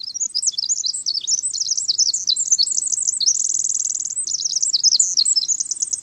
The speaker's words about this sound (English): Bubbling, cascading, penetrating, the song of the winter wren bursts from deep within huckleberry bushes and floats beneath tall, cool evergreen trees. Listen again to one of the longest and most complex songs of the avian world.